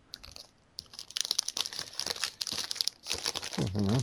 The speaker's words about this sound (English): Crinkle, crinkle.